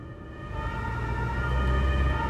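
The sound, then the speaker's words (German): A police car's siren wails steadily with strong harmonic tones. It grows slightly louder over a low rumble of traffic as the police car approaches from behind. No one speaks. “In diesem Fall kann unser Fahrer mit Augen und Ohren schnell reagieren, zügig an den Straßenrand fahren und dem Polizeiauto Platz machen.”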